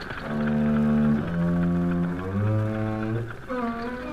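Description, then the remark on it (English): A low, droning instrument, played by Barney in a story, holds sustained buzzing notes that shift and slide in pitch, imitating airplane engines warming up at an airfield. The sound is loud, with no talking. “He walked and he walked till he came to an airfield, and he heard airplanes warming up.”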